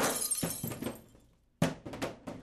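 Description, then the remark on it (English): Barrels rolled down a staircase tumble and crash in a loud clatter of repeated impacts and breaking, a brief pause, then another sharp crash with several bouncing thuds that fade out. “Instead of me schlepping it down the stairs, I'll just roll them down the stairs.”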